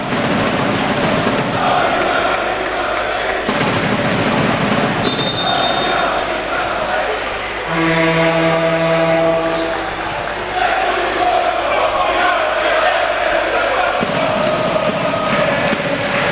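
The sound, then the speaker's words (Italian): Trieste basketball fans sing and chant together during a game against Givova Scafati, in a loud, continuous roar, with a sustained tonal blast cutting through briefly midway before the crowd noise carries on. “Continuano a cantare intanto i tifosi triestini”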